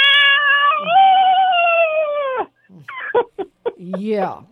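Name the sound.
cat yowling loudly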